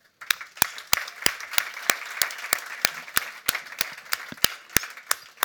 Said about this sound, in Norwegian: Og så gir vi en applaus til Kristoffer.